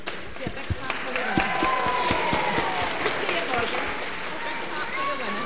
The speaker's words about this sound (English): Big clap for the winner. Big clap for the winner.